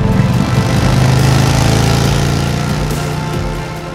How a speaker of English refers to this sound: The young couple saw there was still one motorcycle parked out front. Cody and JJ jumped hurriedly on the bike and revved up to it.